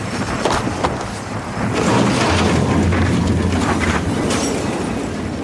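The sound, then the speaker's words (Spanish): A car bomb explosion as a bomb stuck to a Dodge is set off by remote control and the Dodge is blown up: a thick, continuous roar of deep rumbling, swelling louder partway through, with sharp crackling bursts scattered across the noise and no voices. “La bomba se pega al Dodge. Villambrosa acciona el mando. El Dodge salta por los aires.”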